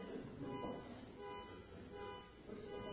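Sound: car beeping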